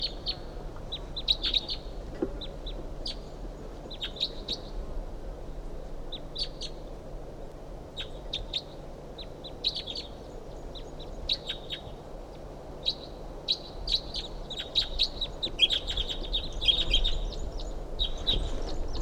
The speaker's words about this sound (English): That bird's about 50 yards off in the top of us, medium-sized ponderosa pine.